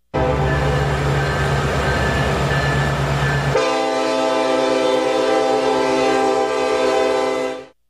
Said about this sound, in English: For me, and for most people in the United States, the sound of a train whistling across the expansive Midwest signifies the passing of a great freight train bellowing its way on diesel power to bring goods from one cultural center to the next.